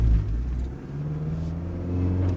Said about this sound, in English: Let's start the car up. Okay, we'll accelerate away gently.